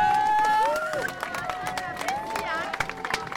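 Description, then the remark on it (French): A crowd of demonstrators claps and cheers for a local resident bringing them water, with scattered sharp claps and whistles over a busy murmur of voices, one clear whistle sliding up and down near the start. “Il y a quelqu'un qui nous amène de l'eau qui se fait applaudir, un riverain.”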